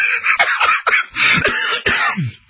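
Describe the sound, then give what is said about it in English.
A person laughs and coughs in a string of harsh, raspy bursts, about four sharp coughs breaking up breathy laughter, loud and without any speech. “Sorry to laugh and cough, but a written summary.”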